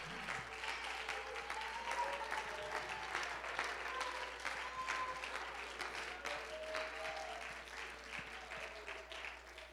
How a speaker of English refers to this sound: And if you know it and you got it, you ought to clap your hands. You ought to shout.